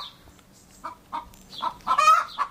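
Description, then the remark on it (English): A Dominique hen named Sophia, kept in Seattle, clucks in a series of short, rising calls that build into a louder, drawn-out squawking cackle near the end, as she is about to lay an egg; clear with no talking. “This is a chicken, or a hen, I guess, called Sophia, a Dominique chicken, and she is about to lay an egg, according to Susie and Steve, who live in Seattle”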